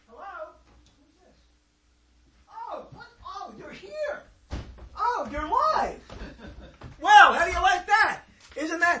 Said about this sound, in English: Did you close the door up there? Did you close the door?